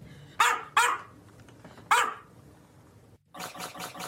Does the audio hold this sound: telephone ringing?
no